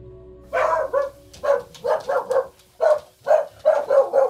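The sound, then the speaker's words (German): Dogs bark in a quick, steady series of about nine sharp barks, loud and clear with short pauses between them and no talking over them. “Die Hunde, die wir haben, die sind alle, kommen fast alle aus Spanien.”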